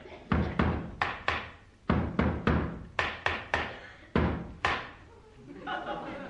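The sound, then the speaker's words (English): Loud, sharp knocks on a door by someone at the door, in quick irregular bursts, about a dozen hard raps, followed by a brief murmur of voices at the end. “Hey, that's not an echo, you cop. It's someone at the door.”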